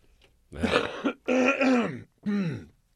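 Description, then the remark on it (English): Three loud, rough bursts of throat clearing, thick and phlegmy, with short gaps between them; the last one trails off in a low, gravelly rasp. “That was particularly fiery and phlegmy. Yeah? You need to cough something up a little bit?”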